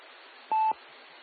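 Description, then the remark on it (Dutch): A single short telephone line tone as a phone call is picked up, a clean mid-pitched beep lasting about a quarter second with a faint click at each end, sounding over a steady low hiss with no talking. “En ik ga nu even de telefoon aannemen.”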